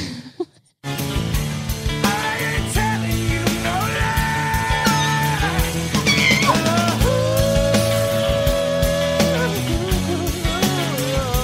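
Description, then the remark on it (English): After a brief silent moment, the last 28 seconds of a song play loudly: a wailing lead vocal holds long, wavering high notes over dense instrumentation and a steady pounding drum beat, with no speech. “Finally, we've arrived at the last 28 seconds of the song.”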